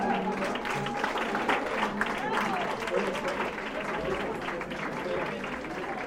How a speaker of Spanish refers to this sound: aplauso fuerte, ¿no?